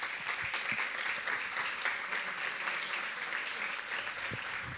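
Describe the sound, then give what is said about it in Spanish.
An audience at a screening of the film La larga noche de Francisco Sanctis applauds its directors and editor steadily: a dense, even wash of many hands clapping at once that holds at a constant level for several seconds with no voices on top. “Les pido un aplauso.”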